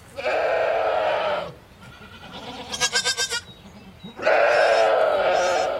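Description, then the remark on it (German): Goats, soon to be milked, bleat loudly: two long drawn-out calls with a shorter, pulsing, stuttering bleat between them, over a low background hum. “Bald müssen die Ziegen gemolken werden.”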